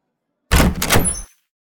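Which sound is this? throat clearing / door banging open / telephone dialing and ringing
door banging open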